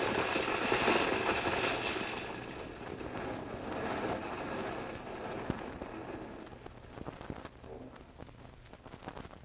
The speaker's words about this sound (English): Hey, quick, get behind the truck. Look out. It's a landslide, and it's right behind us.